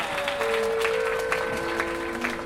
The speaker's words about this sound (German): Ein Applaus für Sina!